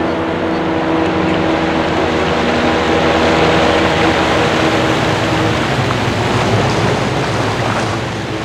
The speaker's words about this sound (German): Drei Schiffe der Küstenwache steuerten auf den Anleger zu und umstellten ihn so, dass auch das kleinste Boot nicht mehr durchkam.